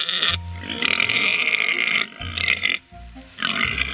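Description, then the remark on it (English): Very large sows, huge pigs, grunt and squeal aggressively at feeding time in three loud, harsh bursts, rough low grunts merging with shrill squeals, short pauses between outbursts, no talking; used as a layer of the Indominus creature sound. “And at feeding time, the pigs get very aggressive and they bark and squeal.”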